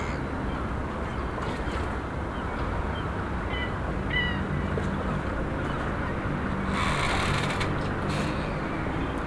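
Fish calling underwater in the sea, picked up by a hydrophone: a steady low rumbling crackle with a few short upward chirps midway and a brief hissing swell near the end. No voices.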